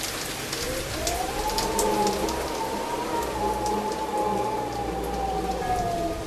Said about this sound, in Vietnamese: Mưa đã bắt đầu nặng hạt trên mái nhà dột nát. Gió cũng gào thét qua các cành cây và đập mạnh vào vách.